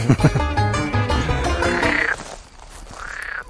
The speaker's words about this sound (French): Elles sont au taquet les grenouilles.